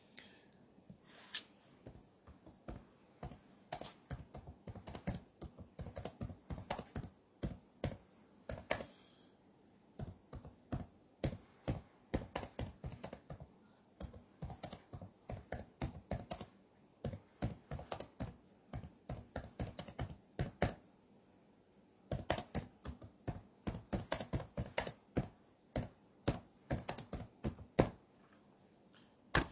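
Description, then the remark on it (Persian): Rapid computer keyboard typing in bursts of quick, crisp key clicks with brief pauses between runs, fairly clear, with no voices; someone typing replies to people during an online session. “خب عرض به خدمت شما که من باید همزمان هم بحثمو مطرح کنم هم به آقایون تایپی جواب بدم، چون صدای منو نمیشنه من تو سیستم متاسفانه.”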